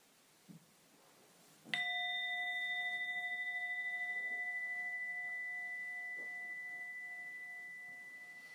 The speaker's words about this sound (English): And listen out for the sound of the bell that will carry you from Yoga Nidra back out to a more ordinary, everyday state of awareness. Let the sound of the bell carry you back safe and sound.